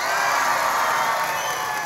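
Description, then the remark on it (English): A crowd applauds and cheers loudly and steadily, voting by applause between a fake tree and a real tree, a dense wash of clapping with whoops and shouts mixed in, sustained without a break. “All right, by applause.”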